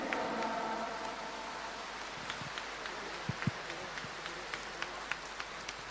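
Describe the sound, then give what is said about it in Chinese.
Steady audience applause thanking Director Lu Junhong for his Buddhist talk, a dense crackling wash of many hands clapping with a few sharper individual claps standing out, holding at an even level throughout with no voices. “让我们再次以热烈的掌声感恩卢军宏台长的精彩开示。”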